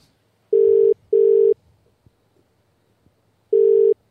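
A telephone dial tone sounds as loud, steady mid-pitched buzzing beeps: two quick bursts together, a pause, then a third, with no one speaking, as a phone call is placed.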